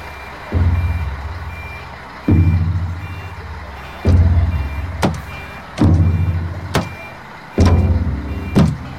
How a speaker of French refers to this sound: The bus is coming. So they have to go for medical checkup now.